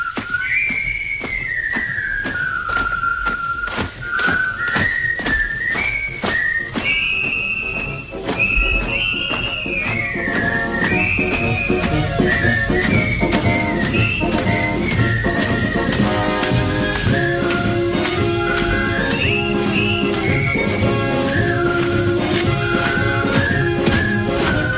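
A jaunty march tune from the soundtrack of the war film The Bridge on the River Kwai, whistled in a clear, high melody over a steady rhythmic accompaniment, with fuller band instruments joining midway and the whistling continuing loud throughout.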